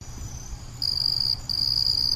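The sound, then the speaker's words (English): Crickets in Northeast Texas chirp in a loud, steady high-pitched trill that pauses briefly midway, over a low background hum with no one talking. “Ah, yes, the sweet sound of crickets.”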